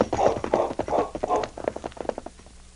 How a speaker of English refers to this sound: A short time later, as the sergeant's horse struggled over the crest of the hill, the sound of hoofbeats was heard.